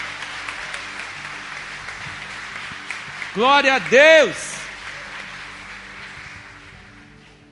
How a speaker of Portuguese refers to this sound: Quem crê nisso, dê uma salva de palmas ao Senhor. Aleluia.